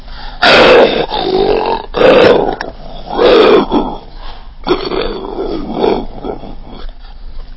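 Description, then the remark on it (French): A voice imitates a bear's growl in a series of loud, rough, guttural bursts, four short roars followed by a longer, rumbling growl that trails off. “Un ours.”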